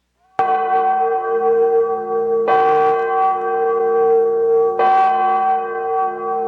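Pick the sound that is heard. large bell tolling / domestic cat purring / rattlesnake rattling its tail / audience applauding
large bell tolling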